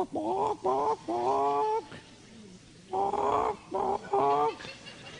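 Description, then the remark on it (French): A voice imitates a clucking hen: two clusters of short, nasal, squawky bursts, three in each, separated by a brief quiet pause. Fairly loud. “Il avait bien imité, essayé d'imiter les poules.”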